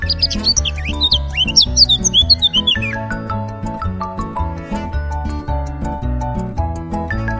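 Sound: birds chirping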